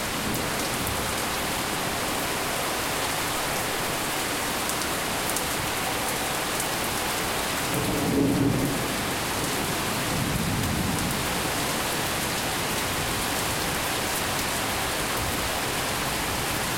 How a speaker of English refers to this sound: So, as an example, here's a recording that I did of a thunderstorm outside my kitchen window in the summer of 2020.